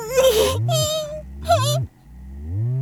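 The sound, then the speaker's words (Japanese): A young child whimpers and cries in several drawn-out, wavering bursts, fairly loud, with short breaks between sobs and a softer moan at the end. “泣いてるのに、いてるのに無駄いちゃう、おもちゃに生かされちゃうのや。”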